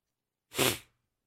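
sniffing

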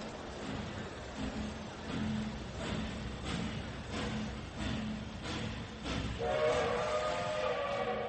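train departing from station

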